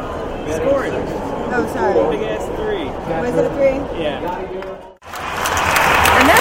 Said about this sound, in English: Of the crowd responding to Yadier Molina lofting a two-out hit to left center field to bring in two and make the score 1-2.